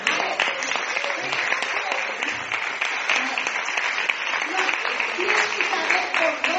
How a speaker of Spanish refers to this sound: Dale un aplauso a esto.